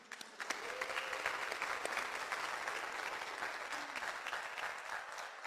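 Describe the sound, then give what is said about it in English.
A crowd at a church service claps steadily for several seconds, applauding the graduates and themselves: a dense, even patter of many hands with a few sharper individual claps standing out, and no voices over it. “Graduates, I applaud you. And I applaud every disciple in here that are standing firm. Give yourself a hand.”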